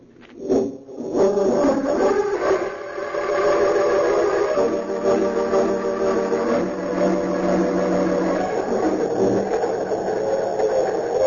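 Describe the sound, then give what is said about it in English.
The express train the Golden Comet rushes through the night toward the city of Metropolis at steady speed, a continuous loud roar layered with sustained whistle-like tones that hold for the whole stretch, with no voices. “It seemed as the crack expressed the golden comet speeding through the night toward the city of Metropolis.”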